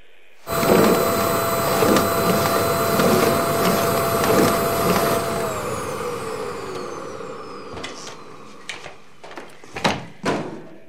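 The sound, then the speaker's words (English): A vacuum cleaner roars to life and runs loudly with a steady whine at a house in the evening, then its motor winds down in pitch as it is set down, followed by several clunks and knocks. “Kay sets down the vacuum cleaner to turn the lone armchair away from the window so it faces the TV.”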